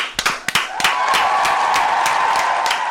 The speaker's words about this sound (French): Hey, il se met des applaudissements à lui-même.